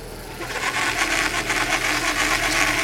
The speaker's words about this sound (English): hauling lobster pots in Robinson's Hole. Now, there looks like a couple keepers. Now, those lobsters didn't grow up in the bay. They've come from offshore.